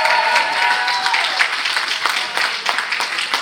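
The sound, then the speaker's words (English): Audience applause at a ring event fills the whole stretch as DVE Entertainment is invited to make its way to the ring, a steady wash of many hands clapping at a fairly loud, even level, with faint crowd noise mixed in. “Here come round of applause, Chloe and Chuck, and DVE, please.”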